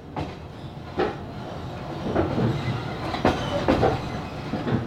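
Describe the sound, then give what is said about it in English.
A train heading towards the Ukrainian capital rolls along the rails with a steady low rumble, punctuated by irregular clickety-clack thumps from the wheels passing over track joints, with no voices. “This September, Zanny and Arkady once again boarded a train and headed towards the Ukrainian capital.”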